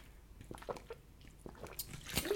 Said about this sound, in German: Darauf einen Schluck Wasser, ihr Lieben.